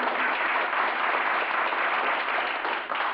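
A crowd applauds steadily, a dense, even wash of many hands clapping that holds at a constant loud level throughout, with no voices rising above it.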